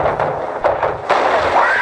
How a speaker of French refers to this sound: Il faut se dépêcher là, il a défoncé la porte, c'est dangereux.